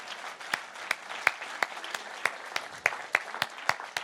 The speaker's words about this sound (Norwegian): Han fortjener jo en applaus.